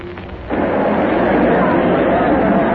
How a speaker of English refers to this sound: We are here on the central plaza. We are well off to the eastward edge. There's a kind of terrace over the crowd here. It is precisely 12:04. The crowd is enormous. There might be 10,000. There might be more. The whole square is faces.